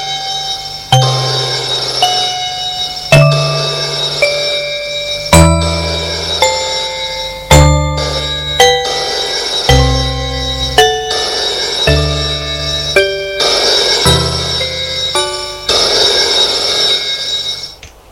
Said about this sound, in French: Maintenant, lorsque le téléphone sonne, elle a peur.